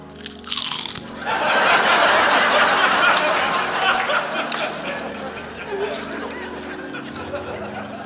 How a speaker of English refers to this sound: I recognize that sound. Someone is eating chips. Yeah, definitely, yeah. Chips for sure.